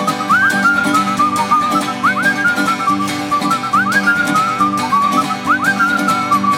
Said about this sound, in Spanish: Vamos, vamos a silbar.